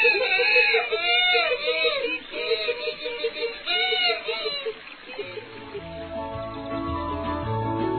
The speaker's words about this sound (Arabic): إنه يصرخ يصرخ كثيرا.